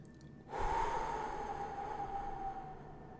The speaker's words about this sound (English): you know, just imagining that you're filling your belly to the count of, say, 5, holding it for a few seconds, and then audibly breathing out, let's say, to the count of 5 as well.